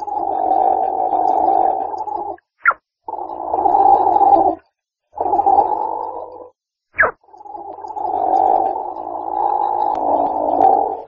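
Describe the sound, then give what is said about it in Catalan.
A platypus call: low, buzzing growl-like grumbles in long bursts, broken twice by brief sharp rising squeaks, with a bubbly, gurgling texture throughout; no talking. “Fa un so ben peculiar entre bombolletes i petits crits.”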